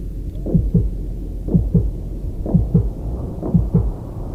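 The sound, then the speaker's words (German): A heartbeat sound effect: four steady double-thump beats about a second apart, low and muffled, with a faint rumbling hum underneath and no voices. “Fühlst du sein Herz schlagen?”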